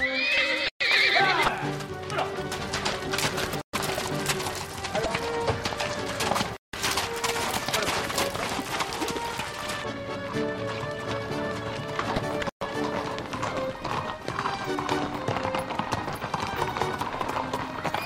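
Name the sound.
horses galloping and neighing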